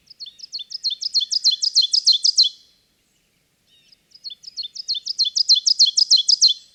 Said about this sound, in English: Oven birds.